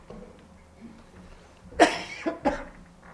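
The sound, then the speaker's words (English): A burst of coughing: one harsh cough followed by two or three quicker, rougher coughs in a short fit, with quiet room noise before. “I had some all-natural cough suppressant, but maybe I just should have put a bottle of that up here and drank it as needed.”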